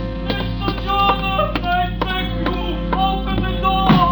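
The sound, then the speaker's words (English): Heavy, insistent pounding on a cafe door at 2 o'clock in the morning, about a dozen blows in a steady, hurried rhythm, loud over a sustained musical drone in the background. “like it when somebody comes slamming at my tambourine door at 2 o'clock in the morning. But that's what happened. And the slamming got wilder and wilder.”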